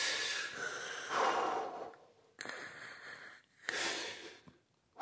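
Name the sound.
deep breathing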